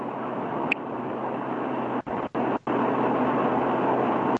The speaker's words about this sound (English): Yeah, I think it was snowplow.